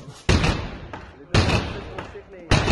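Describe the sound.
Police in the Czech Republic break down the door of a venue hosting a crowded party held in breach of quarantine, with three loud, heavy crashing blows about a second apart, each ringing out briefly, with muffled voices and commotion in the background between the impacts.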